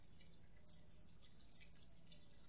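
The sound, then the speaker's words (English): Faint water dripping and trickling against a steady hiss, with a few soft, distinct drops landing irregularly. No one speaks. “I'm just wasting water now.”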